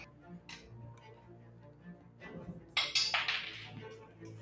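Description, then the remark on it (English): Dice, thrown in the first dice drop of the night, clatter onto a table in a quick burst of sharp, bright clicks and rattles lasting under a second, following a stretch of quiet low background murmur. “You will throw dice. First dice drop of the night.”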